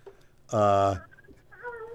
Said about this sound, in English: Wait, I hear a baby in the background. There's your hint. That's the clue I needed. Maybe it was a dog.